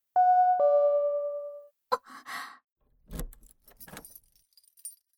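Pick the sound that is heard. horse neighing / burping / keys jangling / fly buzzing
keys jangling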